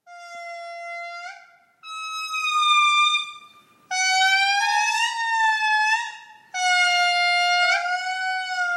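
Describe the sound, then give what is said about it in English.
Singing lemurs in Madagascar wail in loud, long, siren-like notes, several voices overlapping in sustained tones that step in pitch, broken by a few brief pauses, without any talking. “Oh, it's so beautiful and haunting and also a little bit like whale sounds meets air horns.”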